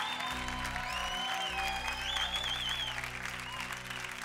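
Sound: audience clapping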